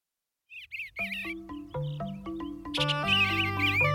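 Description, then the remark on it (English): A songbird sings a mellow, burbling warble in short rising-and-falling phrases, fairly clear, at the edge of a meadow in spring, joined after a moment by sustained musical tones playing beneath it. “What a lovely song! The very sound of spring. A mellow, burbled refrain from the edge of a meadow.”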